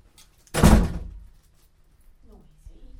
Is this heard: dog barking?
no